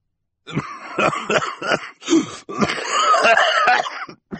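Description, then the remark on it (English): A voice imitates a man's coughing fit, Mr. Poe coughing into his white handkerchief: a run of harsh, loud coughs in quick bursts, followed by a longer raspy, wheezing hack with no speech. “When they followed Jerome across the enormous room to watch the auction underneath the inn banner, they found Mr. Poe, holding a glass of parsley soda and coughing into his white handkerchief.”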